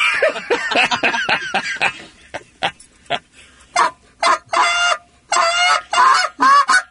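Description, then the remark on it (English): A goose call blown in a rapid series of short, loud honks and clucks, then longer separated honks with harmonic, nasal tones, imitating geese, with no talking. “Then that's what the geese hear when you're out there running around.”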